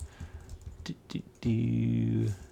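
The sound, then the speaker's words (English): A few scattered computer keyboard key clicks, moderately loud, followed by a loud, steady buzzing tone that holds for nearly a second before cutting off. “Also, your keyboard format's kind of inefficient.”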